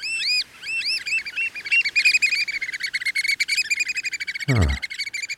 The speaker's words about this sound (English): It brings up images of a sandy beach and a blue ocean, …. I think it sounds like a shorebird to me. You got it in one, …. That is an American oyster catcher.